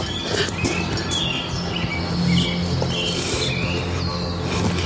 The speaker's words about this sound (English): Yeah, why are the birds chirping in the middle of the night? Yeah, this is clearly horseshit. I don't know any birds that chirp like that in the middle of the night. It sounds like it's like, you know, break of dawn.